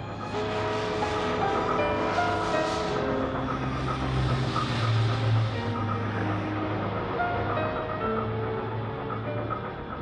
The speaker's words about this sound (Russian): И я помню, уже когда мы возвращались в Киев, это 43-й, наверное, 44-й год, наверное, был. Я помню, что тоже вот этот вот звук машины парохода, это я помню, вот это монотонно.